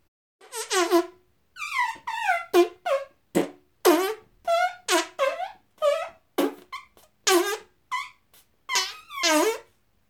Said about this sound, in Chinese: 放屁！